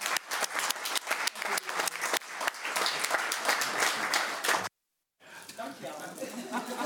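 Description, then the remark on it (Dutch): A group at a municipal council meeting breaks into applause for the council, dense and steady clapping for nearly five seconds that cuts off abruptly, then people resume talking over a low murmur. “Dames en heren, even een applaus voor het beste raad.”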